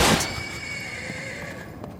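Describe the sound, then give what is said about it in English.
A horse lets out a loud whinny that starts sharply and trails off in a wavering, tonal neigh over about two seconds, with no talking. “I'm trying to offload these socks and this tomorrow horse.”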